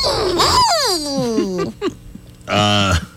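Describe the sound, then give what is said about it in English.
Chronic hiccups of a woman in England who has had them for 12 years, coming out as sharp, high-pitched squeals: an abrupt yelp sliding down into a long whining tone, then, after a brief pause, another short, loud squeal. “They're kind of a weird sound, like a dog that squeals.”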